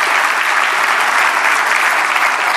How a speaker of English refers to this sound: Ad Council deserves a tremendous round of applause.